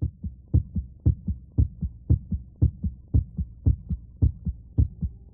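human heartbeat

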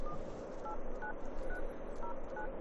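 telephone dialing tones

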